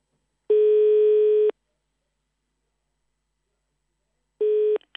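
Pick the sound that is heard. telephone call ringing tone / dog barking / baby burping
telephone call ringing tone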